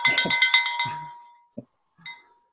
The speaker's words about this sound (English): I'm testing out the audio. I got this little tinkle bell. I heard that. From my daughters.